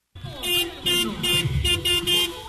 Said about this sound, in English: Even if everyone's staying in their car, it's pretty rowdy out here. A few dozen drivers are parked around a wrestling ring. They pound their horns.